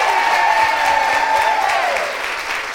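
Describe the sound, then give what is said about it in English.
A crowd at a show applauds its vendors steadily, a dense wash of clapping from many hands that stays loud throughout and eases off slightly toward the end, with faint cheering mixed in. “And so one more applause for all of our awesome vendors.”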